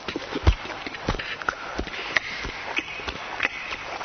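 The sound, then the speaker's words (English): A person imitates a cow chewing grass with a steady series of soft crunching, clicking mouth sounds, about eight over a few seconds in a loose, irregular rhythm. “And the cow is just sitting under a tree, just chewing grass like this.”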